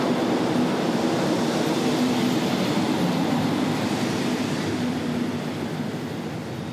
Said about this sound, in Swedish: Det är ett myller, alltså en järnvägsstation. Om man tycker att det är mycket folk på Stockholm central, så är det ju bara ett litet skämt eller bara förnamnet på myller. Det är så otroligt mycket folk på till exempel järnvägsstationer i Indien.